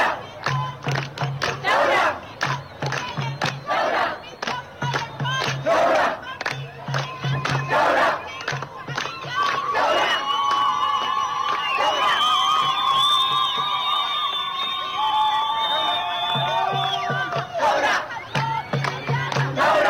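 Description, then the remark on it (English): A large outdoor anti-government protest crowd in Khartoum, Sudan, chants in call and response: a lone woman standing on top of a car calls "My people want" and the mass answers "Revolution" in rhythmic shouts, swelling midway into sustained cheering and ululating before the chant resumes. “She is chanting, "My people want," and the crowd responds, "Revolution."”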